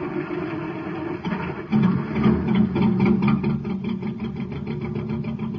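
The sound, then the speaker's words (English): The engine of a cosmic surface car in trouble on Space Patrol, running on ordinary fuel, labors and sputters with a rough, rattling pulse, its low droning growl swelling louder after a moment and then chugging unevenly as if straining to keep running. “Gang, here's the story of a cosmic surface car in trouble. Listen.”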